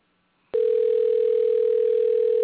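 An outgoing phone call's ringing tone: after a brief near-silence, a loud, steady electronic tone starts and holds unbroken for about two seconds, with no voices.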